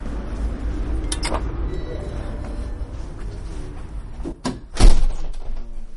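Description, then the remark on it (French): A door is pushed open with a scrape and then closes with a heavy thunk, set against a low rumbling background with faint murmuring voices. “Allez, on y retourne par la magie de la radio, on pousse la porte.”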